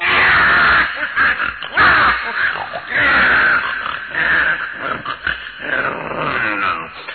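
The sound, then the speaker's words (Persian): A wolf snarls and growls loudly, breaking into drawn-out howling cries in several rough bursts with no speech, as it lifts its head and cries out after drinking water until bloated. “گرگ بدجنس غافل که نبود هرگز عاقل، هی خورد و خورد تا باد کرد، سرشو برداشت فریاد کرد.”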